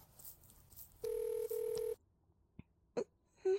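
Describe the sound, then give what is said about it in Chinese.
A phone rings with an incoming call from a woman's husband: two short, steady electronic tone bursts separated by a brief gap, fairly loud, followed by quiet with a few faint clicks. “等一下，糟糕，我老公来电话了。”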